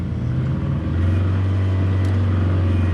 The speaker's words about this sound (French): Là maintenant, tu vois, on avance plus, il essaie de se débattre avec le moteur, là, on avance plus. On est complètement bloqué dans la végétation.